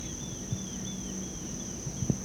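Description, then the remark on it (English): A grasshopper stridulates in a steady, high-pitched buzzing drone held unbroken throughout, with faint bird chirps and a couple of soft low thumps in the background. “That's a grasshopper.”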